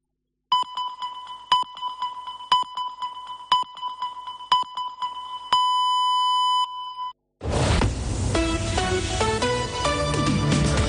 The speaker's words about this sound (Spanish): Senyals horàries de dos quarts de dues del migdia d'aquest dimecres 23 d'octubre.